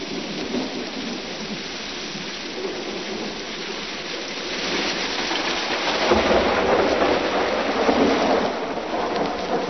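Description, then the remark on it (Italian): Heavy rain pours steadily in a dense, continuous hiss while thunder rumbles, the storm swelling louder about halfway through and staying intense to the end, with no voices. “Pungenti raffiche di vento accompagnavano le piogge e tutte le creature di Vrindavana, irrigidite dal freddo, presero a tremare.”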